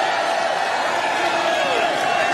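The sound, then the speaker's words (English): A large political crowd in the South Bronx chants "USA, USA" together, a dense, steady wash of many raised voices that stays loud throughout, with cheers and whoops rising through the mass of sound. “And you hear people in the South Bronx chanting USA, USA, probably one of the most diverse political crowds I've ever seen in my life.”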